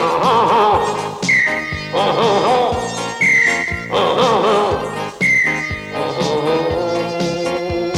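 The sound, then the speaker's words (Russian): Short, high whistle tones from a spring whistle sound three times at steady intervals over a loud, busy band accompaniment, each one a brief bright toot that stands out above the music. “Засвистала лихо трель моя пружинная.”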